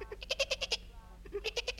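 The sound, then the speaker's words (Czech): A nanny goat with her kid gives two quick, quavering bleats, each a rapid trembling run of pulses, separated by a short pause and fairly loud. “Přibíhala sem kozička s kuzlátkem”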